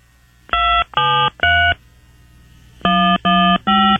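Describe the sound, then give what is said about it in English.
Telephone keypad tones entering a zip code followed by the pound sign on an automated phone line: six short, steady beeps in two quick groups of three separated by a brief pause, each tone fairly loud and slightly buzzy, with no voices. “Please enter the 5-digit zip code associated with this account, followed by the pound sign.”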